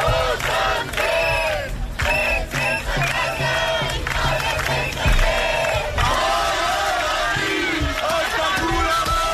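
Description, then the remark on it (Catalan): About 300 activists demonstrate at Fira de Barcelona, having entered a pavilion through a side door despite the police to stop The District congress from starting; they shout and chant together in loud, overlapping voices, the rhythmic yelling rising and falling continuously over a dense rumble of noise. “Sí, uns 300 activistes s'han acostat a la fira en manifestació i tot i la presència policial han aconseguit entrar per una porta lateral del pavelló i han evitat que pogués començar el congrés.”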